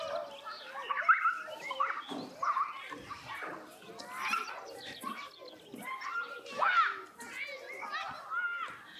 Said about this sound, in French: On entend presque au loin des enfants jouer dans la cour d'école.